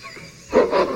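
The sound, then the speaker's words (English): An animal growls from the left side of a trail, a rough, rumbling snarl that surges in twice in quick succession after a quieter start, loud and harsh with no one speaking. “you actually hear growls coming from somewhere in the left side of the trail.”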